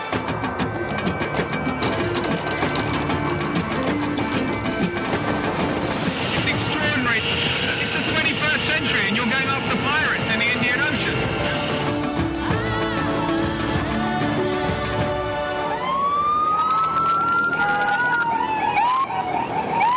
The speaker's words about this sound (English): So we're now at the front of the whole raiding party. So we're speeding through the traffic now, and we're in a proper pursuit sort of situation. They're telling us to get down.